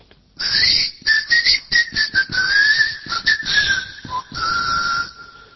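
A person whistles to summon a keychain that responds to whistling, a choppy run of short, quick notes that settles into a longer, steadier tone near the end, fairly loud and with no talking.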